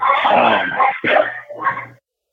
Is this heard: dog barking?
yes